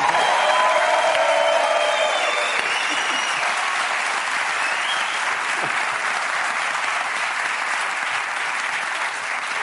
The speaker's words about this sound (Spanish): un aplauso para Ricardo y Grisel.